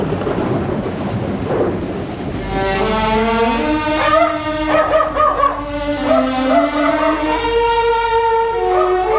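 A dog named Lord barks and howls over music at the home of Antònia Vicenç, in long, drawn-out, wavering, loud tones over a steady rumbling, rain-like noise that fills the opening seconds on its own.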